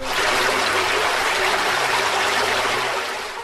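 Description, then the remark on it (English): A steady rushing whoosh of water, loud, a gushing spray sound effect for a water-type attack move called Drench in a video game battle, holding for about three seconds before tapering off slightly, with no talking. “Choose a move. Drench. Water.”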